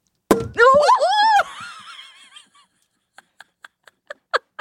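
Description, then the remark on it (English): A champagne bottle cork pops out sharply and ricochets off the ceiling, quickly followed by an excited vocal outburst, then a series of small, sharp taps and clicks that come faster and grow louder. “I hope the mic picked up the sound of it ricocheting off your ceiling.”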